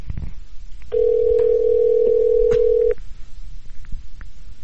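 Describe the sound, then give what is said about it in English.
A single steady telephone ringing tone sounds for about two seconds over a faint background hum as a call is placed to a guest, then cuts off abruptly with no one speaking. “All right. It's ringing.”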